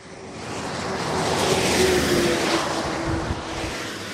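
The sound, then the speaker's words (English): A steady roar of road traffic as cars slow to 30 miles an hour entering the small village of Perrois-les-Gombrés, north of Paris, France, past a speed camera; a vehicle passes, swelling in the middle before easing off slightly, a faint engine whine running through it. No one speaks. “Cars slowing to 30 miles an hour as they enter the little village of Perrois-les-Gombrés, north of Paris.”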